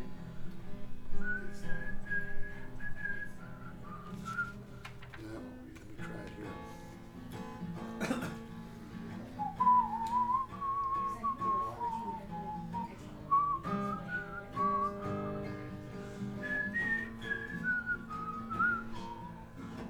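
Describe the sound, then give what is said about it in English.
A person whistles a short melodic intro tune in clear, wavering phrases separated by brief pauses, moderately loud, over a low background rumble. “usually I whistle the intro to this.”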